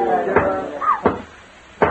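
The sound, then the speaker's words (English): Three sharp knocks on a door from someone outside it, heard during a séance that called for three knocks. The knocks are spaced unevenly about a second apart, each a short solid thud. A faint tonal hum and a brief rising-falling wail sound beneath them. “If you are present tonight, knock three times that we may know.”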